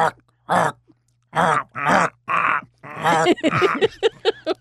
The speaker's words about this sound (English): Now, what about the raven? Quoth the raven.